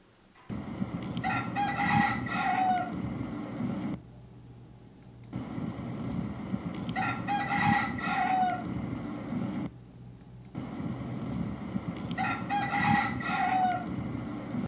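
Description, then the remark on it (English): A wild red junglefowl crows three times in a row at Pha Dang National Park in Thailand, each harsh, clipped cock-a-doodle call spaced a few seconds apart over a steady outdoor ambience of insects and other birds. “Here's a wild red jungle fowl recorded at Pha Dang National Park in Thailand.”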